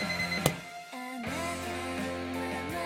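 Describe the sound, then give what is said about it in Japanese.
An alarm clock rings with a steady electronic tone that shifts pitch partway through, sounding continuously and fairly loud with no voices over it. “ああうるさい、私の大嫌いな音。 この時計は言うことを聞いてくれないな。”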